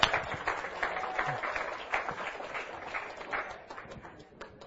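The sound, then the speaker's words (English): A crowd gives a round of applause, a dense, steady patter of many hands clapping at a fairly soft level that eases off slightly toward the end. “Let's just give it a round of applause.”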